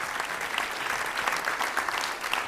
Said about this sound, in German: Vielen Dank fürs Mitmachen. Jawohl. Einen Applaus nochmal für die schöne Frage.